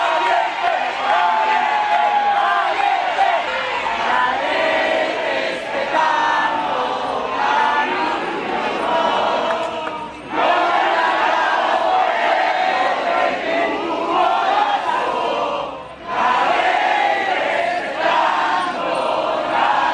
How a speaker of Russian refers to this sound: Сторонники Марии Мачадо встретили ее появление на балконе Гранд-отеля Осло овацией, национальным гимном Венесуэлы и скандированием слова «Либертад» — «Свобода».